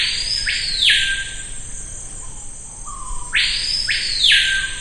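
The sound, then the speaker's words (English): A screaming piha, a bird of the Amazon rainforest, calls twice, each a loud, piercing high whistle in two ringing notes, the second call preceded by a softer low slur, over a steady hiss of insects. “And the screaming piha is really sort of the signature sound of the Amazon rainforest.”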